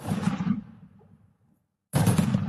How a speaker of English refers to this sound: And then... boom! Immediately, I jumped out and ducked my head. I'm like, what the hell is that? It was an explosion. Actually, two of them back to back. A flash of light, then the sound.